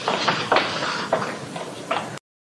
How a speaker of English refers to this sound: I just heard, like, footsteps. Yeah, there's definitely some footsteps.